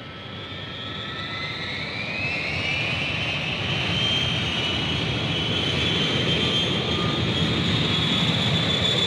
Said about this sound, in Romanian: Suntem în aer. Este prima noastră călătorie cu avionul, așa că trebuie să ne iertați dacă vă părem foarte interesați de tot ce se întâmplă în jurul nostru.